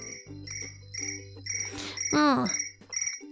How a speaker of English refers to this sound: I started to listen to a soft sound like the one done by a cricket.